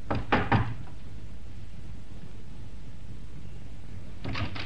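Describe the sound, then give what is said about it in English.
Three quick, sharp knocks by a police inspector on the door of a small flat in a good residential district near the start, then a quiet pause with faint room noise, and a softer short burst of knocking near the end. No one speaks. “But instead, he knocked.”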